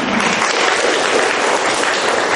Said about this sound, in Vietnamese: Rồi chúng ta hân hoan chào những anh chị em một tràng pháo tay thật lớn thưa anh chị em. To lên.